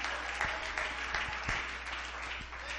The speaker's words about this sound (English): Can we clap our hands unto the Lord right now?